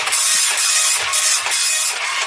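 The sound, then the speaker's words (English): An old-fashioned dot matrix printer prints steadily and slowly with a harsh, high buzzing rasp, pulsing in quick regular passes as the print head sweeps back and forth. Loud, with no voices. “it's a daisy wheel sort of old-fashioned, not daisy, what do you call it, a dot matrix printer. It takes ages to”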